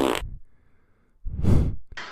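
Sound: fart sound effect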